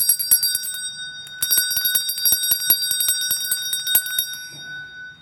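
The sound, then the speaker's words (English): A metal bell rings loudly and repeatedly in a quick, clattering rhythm, its bright sustained tones overlapping with sharp strikes, then fading as the ringing stops near the end. “Well, I have something really loud here for you, the bell.”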